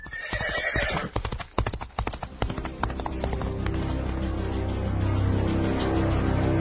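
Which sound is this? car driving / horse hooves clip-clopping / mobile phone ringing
horse hooves clip-clopping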